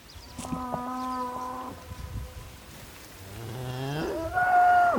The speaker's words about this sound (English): The calls from cows are one of the only sounds in this shadowy, ancient walnut forest. Many Kyrgyz make a living herding livestock, like cows and sheep, that graze pastures in the nearby mountains that rise above the walnut trees.